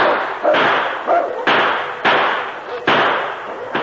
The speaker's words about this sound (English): The sergeant reloaded and blasted away again.